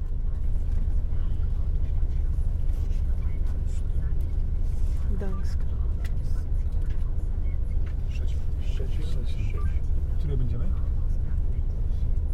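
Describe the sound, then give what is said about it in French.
Steady low rumble of idling engines fills a busy bus station in Berlin at 7 a.m. on Saturday 26 November, with muffled voices and occasional clanks and squeaks scattered through the continuous background noise. “Berlin. Samedi 26 novembre, 7h du matin, à la gare de bus.”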